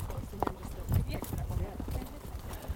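horse hooves clip-clopping

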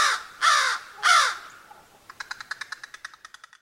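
crow cawing

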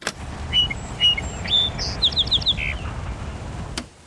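song sparrow song

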